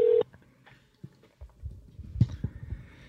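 A short, loud steady tone from a phone set in the middle of a table cuts off abruptly, followed by soft clicks and low thumps as the call connects and rings out, with no voices.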